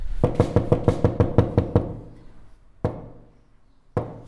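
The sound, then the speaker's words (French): A quick run of about eight loud knocks on the door of a house, then two slower, single knocks after short pauses, with no voices. “Donc là j'approche de la porte de la maison d'Olivier, puis bah je vais simplement frapper.”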